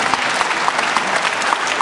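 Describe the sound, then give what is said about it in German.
A crowd applauds steadily for a team whose members have just been introduced, a dense wash of many hands clapping at moderate volume with no pauses, sounding like a medium-sized audience. “Die ersten Teams haben aber ein bisschen mehr Applaus bekommen.”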